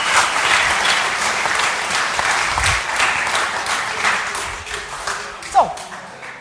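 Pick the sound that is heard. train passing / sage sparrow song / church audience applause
church audience applause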